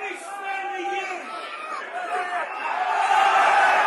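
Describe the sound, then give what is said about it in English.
A football crowd close by shouts and jeers at the player wearing number 7, several voices calling out over a steady stadium hubbub that swells louder toward the end. “Right down in front of us, he's drawing some comment.”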